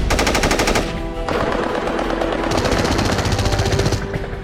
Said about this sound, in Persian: شلمچه زیر آتیش سنگین دشمن بود.